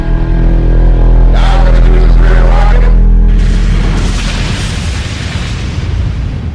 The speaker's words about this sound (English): This one's explosive. And right now we'd like to introduce the Massive Explosions in the mix.